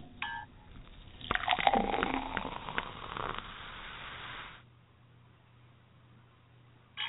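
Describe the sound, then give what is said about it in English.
Champagne pours and fizzes steadily into glasses for about three seconds with a bright, splashing hiss for a New Year's toast, then fades to a quiet low hum, with a brief sound at the very end. “What do you say we have a little champagne to get the show started?”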